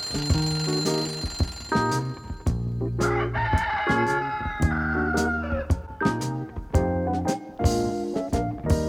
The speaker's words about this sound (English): He'd cock-a-doodle-doo as loud as can be. He'd wake up all the birds asleep in the trees. He'd wake up all the horses and the cows in the barn. With his cock-a-doodle-doo, he would sound the alarm.